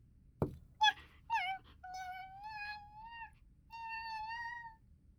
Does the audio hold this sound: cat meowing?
yes